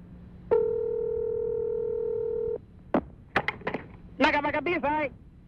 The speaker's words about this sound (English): We have a phone number. Let's give it a call. This is for somewhere in the Orient. And apparently the hotel that Ricky Williams is staying at. We'll see if we can get a hold of him.